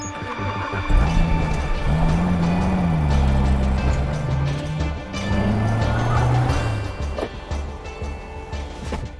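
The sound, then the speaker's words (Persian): The engine of a McAllister Motors car rumbles, its pitch rising and falling as the car rolls in and slows, then the noise eases off toward the end. No one speaks. “ماشین قشنگی آقای دار، به هم بگینین چه جور ماشینیه؟”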